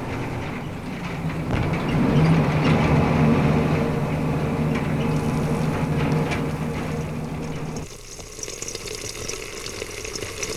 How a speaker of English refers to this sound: Sounds which stick in your mind. The sound of those long, numbing rides in the back of a deuce and a half.